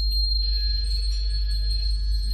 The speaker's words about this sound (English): Should make £100 fine for anyone whose cell phone goes off.